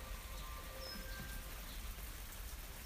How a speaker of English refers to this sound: I'm stepping outside. It's still raining a little bit, but most of what you can hear now is actually rain dripping off all the trees. It's kind of just a bit harder than drizzle now.